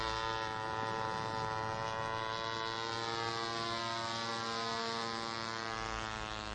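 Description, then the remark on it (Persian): A loud, steady engine drone of an airplane passing close overhead, its buzzing harmonic hum holding at a constant level for several seconds with no voices. “باز هم صدای نزدیک شدن هواپیما میاد.”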